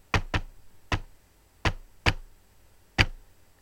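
Six sharp knocks on a door in a deliberate, uneven pattern: a quick double rap, then single knocks at irregular gaps, like a coded signal. No voices are heard.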